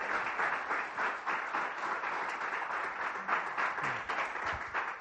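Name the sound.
audience applause and clapping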